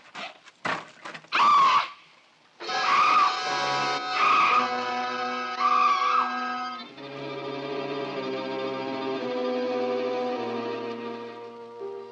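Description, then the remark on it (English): A woman screams in several loud, wailing bursts that merge into one long, sustained cry, harsh and heavily echoing, as if distorted or processed. “Screaming finally. I felt better for it.”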